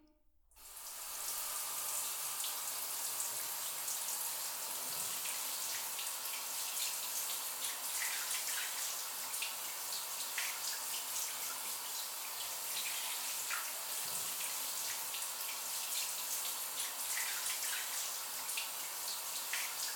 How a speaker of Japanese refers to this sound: シャワーで流すね。